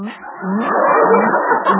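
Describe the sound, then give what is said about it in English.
Loud, wet slurping of drinkable yogurt through a straw, a continuous gurgling, sputtering draw with a low rasping tone that lasts just under two seconds. “Sounds like water running out of a dishwasher.”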